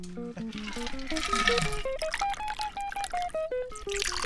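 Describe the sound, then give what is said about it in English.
A watery yellow cocktail, shaken until frost formed on the shaker, is strained into a glass in a steady stream, its gurgling tone climbing in pitch as the glass fills, then splashing and trickling unevenly for a few seconds with no talking. “And then you strain it in the glass.”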